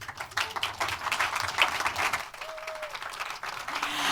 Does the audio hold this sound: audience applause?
yes